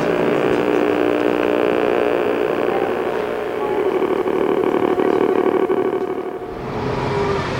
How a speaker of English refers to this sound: Ah, now that was amazing. That was a bus. And actually, if we catch it up, we might just be able to record the bus. Right. We're running for a bus, but not for the usual reasons. Well, that was a bus. That was a number 33 bus from Cookridge.